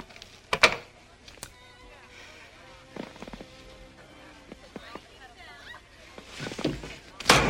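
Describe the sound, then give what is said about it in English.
A portrait in a picture frame is slammed face down with a sharp thunk, among a few other knocks and handling noises over a faint, buzzing background hum. “she slams the portrait face down.”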